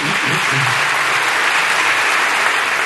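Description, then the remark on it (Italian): Sustained applause from one part of a parliament chamber fills the whole stretch, a dense, steady roar of many hands clapping at an even loudness, with faint murmuring voices low underneath. “E su quello che è un po' il cardine di questa Costituzione tuttora in vigore, quello dei diritti sociali, c'è un applauso di una parte dell'Aula, almeno per il fragore che si è sentito da qui, ma non si è vista l'immagine.”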